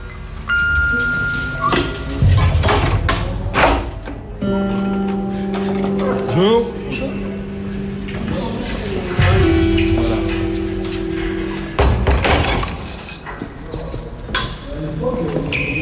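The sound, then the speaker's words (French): Hard footsteps clack steadily along an echoing ground-floor prison corridor with six doors on the right, a regular clip-clop rhythm, with muffled voices and a few sustained tones in the background. “Alors là, on est en train de marcher dans le couloir du rez-de-chaussée avec six portes à droite, 3 et 3.”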